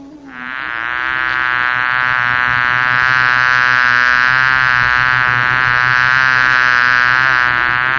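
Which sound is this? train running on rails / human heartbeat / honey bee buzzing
honey bee buzzing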